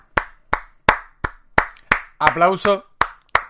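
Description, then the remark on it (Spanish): Steady, evenly spaced hand claps, about three per second, sharp and fairly loud, with a brief voiced shout or cheer breaking in partway through the clapping, applauding a video intro made from the opening of The Office. “Aplauso grande para el señor Oscar, que nos ha hecho esta presentación con la intro, con el opening de The Office”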